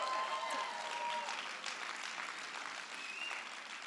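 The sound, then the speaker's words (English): An audience claps for a flower, steadily for about four seconds, a dense, even wash of hand claps that stays fairly loud and fades only slightly, with a few faint voices or cheers mixed in. “Can we just clap for that?”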